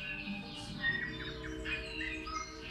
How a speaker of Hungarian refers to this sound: Na most ezek a hangok, ezek a madárhangok, amit közben hallunk, ezek az új-zélandi esőerdőnek a hangjai